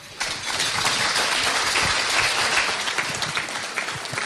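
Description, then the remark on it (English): A crowd at the Sanford Center applauds the coaching staff for the upcoming season, a dense wash of many hands clapping at once that sustains evenly from start to finish with no voices standing out. “The coaching staff for the upcoming season, a round of applause here.”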